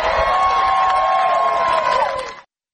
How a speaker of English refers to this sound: Did you catch that response from the crowd? She mentions armor of God and gets some applause, a cheer here and there.